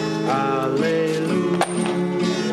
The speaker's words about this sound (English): That man, he dropped his money.